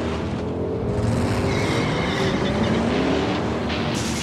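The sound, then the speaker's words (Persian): A 2015 Ford Mustang sports car, the sixth generation, drives at speed as it returns from its first lap; its engine is a loud, steady rumble with tones that rise and fall as it accelerates. No one speaks. “بیشک پرخواهان ترین سواری سال آمریکا فورد مستنگ مدل جدید 2015 است و ما الان داریم از اولین دور سریمون با این خودرو برمیگردیم.”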